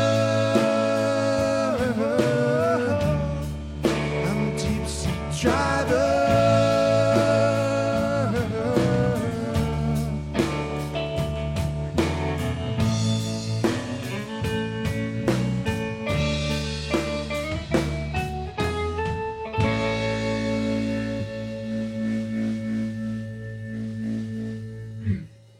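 The final bars of a song played on 91.3 KXCI community radio, without vocals, a steady beat under layered melodic instruments, easing into a sustained closing chord that rings briefly before stopping.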